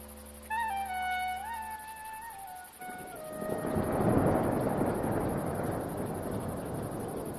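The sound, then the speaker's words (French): A brief gliding tonal sound gives way to a deep, rolling thunder rumble of an approaching thunderstorm that swells loudly and lingers as a broad, stormy roar, with no voices present. “Il y a l'orage qui arrive. Oh non, il va pleuvoir.”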